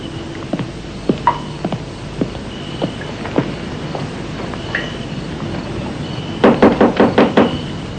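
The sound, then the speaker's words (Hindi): Police knocking on a door: a few scattered, hollow single knocks early on, then a sudden rapid series of about six loud knocks near the end, over a steady low background hum. “दरवाजा खोले प्लीज।”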